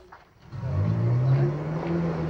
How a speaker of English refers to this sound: The four suited men get out of the car, and the vehicle reverses out of the drive again.